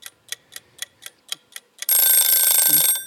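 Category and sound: household object, timer ticking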